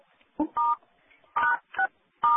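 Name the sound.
telephone keypad DTMF tones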